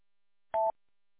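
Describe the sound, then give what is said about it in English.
A radio repeater's confidence beep, sounded about every 5 seconds to indicate the repeater is transmitting: one short, steady mid-pitched electronic tone lasting a fraction of a second, loud and clean against silence, with no voices. “And it's like every 5 seconds there's like a confidence beep to tell you that it's transmitting.”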